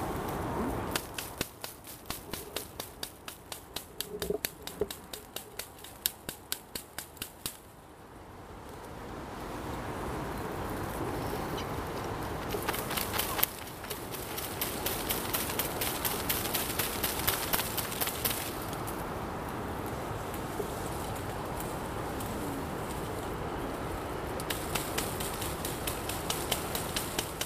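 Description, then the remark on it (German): A light stick gently taps the outer branches of a blackthorn in quick, uneven clicks, then gives way to a steady rustling patter with scattered taps as wilted blossoms, spiders and insects fall onto a white bedsheet during a caterpillar hunt. No voices. “Wir hören einen leichten Stock, der behutsam auf die äußeren Zweige einer Schlehe klopft.”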